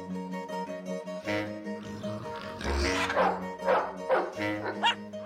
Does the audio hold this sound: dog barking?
yes